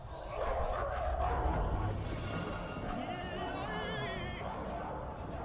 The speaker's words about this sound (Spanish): Claro, y los que estaban los perros ladrando.